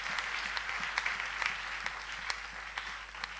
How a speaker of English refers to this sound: Give a clap offering to Jesus somebody.